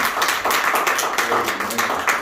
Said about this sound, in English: Praise God. Let's get a Lord a hand clap of praise. Amen.